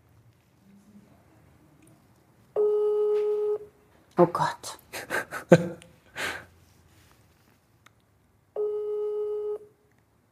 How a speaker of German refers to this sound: Genau, jetzt rufen wir mal den Zweitberühmtesten an. Das klingelt schon mal. Sehr gut.